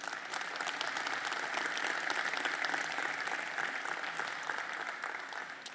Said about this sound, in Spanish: Denle un fuerte aplauso si estás dispuesto a servir.